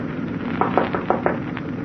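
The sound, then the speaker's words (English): Knocking on the captain's door aboard a liner at 4:30 a.m.: four sharp raps, grouped in two quick pairs, sounding over a steady low mechanical rumble with no voices. “At exactly 4:30, I knocked on the captain's door.”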